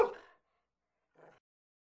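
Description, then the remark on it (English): A dog barks twice at a bird: a loud bark, then a second, softer bark about a second later, with silence between and after. “Barked at the bird. Ruff, ruff.”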